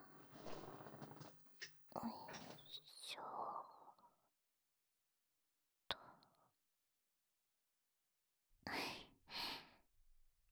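A long, breathy yawn drawn out over several seconds and fading to a sigh, followed by a short click and later two quick breathy exhales.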